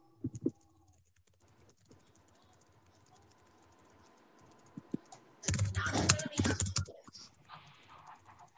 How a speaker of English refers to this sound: Oh, that's my typing, sorry.